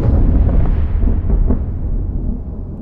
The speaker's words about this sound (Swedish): åskans muller är så utdraget beror ju i sin tur på att ljudet från hela blixtkanalen inte når dig samtidigt. Den är ju ofta flera kilometer lång. Ljudet från en 7 kilometer lång blixtkanal kan till exempel ta sig så där 20 sekunder att breda ut sig.